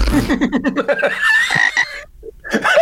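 A frog croaks in a quick, rhythmic series of raspy pulses, followed by a higher, drawn-out call, a short pause, then another loud burst of croaking.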